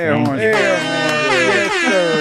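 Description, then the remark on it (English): A loud, brassy air horn blares continuously for about two seconds, its harsh tone wavering slightly in pitch with nothing else alongside it. “Air horns.”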